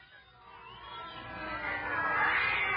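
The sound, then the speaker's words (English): A chorus of cats yowling, a wavering, noisy wail that swells steadily from faint to fairly loud over a few seconds, with no talking over it; a plague of cats coming down the hill from Castle Bathory at night. “A plague of cats, Prince. 3 nights now, about this hour they come.”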